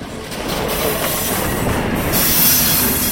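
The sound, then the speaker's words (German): Rail cars roll steadily through the largest shunting yard in Switzerland, in the Limmattal, a dense continuous rumble with metallic wheel noise and a high squeal creeping in near the end, loud, no voices. “Ein Besuch im Limmatal auf dem grössten Rangierbahnhof der Schweiz.”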